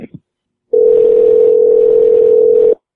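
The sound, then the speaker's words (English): A phone call to a business goes unanswered: one steady, low electronic ringback tone rings through the earpiece for about two seconds, then cuts off into silence, with a short clipped sound just before it. “No one's answering the phone anymore at this place.”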